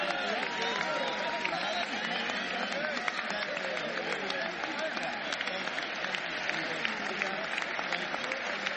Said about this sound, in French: Oui, traditionnellement, c'est les républicains applaudissent le président. En tout cas, les gens de son parti l'applaudissent.